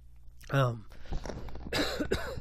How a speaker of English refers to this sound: apologize. I'm getting a bit of a cough.